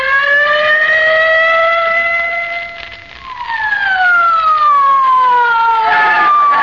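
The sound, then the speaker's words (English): A police squad car siren wails loudly and continuously as the car hurries to 79 Wistful Vista, holding a high tone, dipping briefly, then sweeping back up and sliding downward again, with no voices. “Get in the squad car quick, oh, Molly.”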